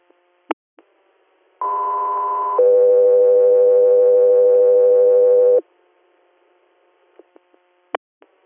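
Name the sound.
radio dispatch alert tones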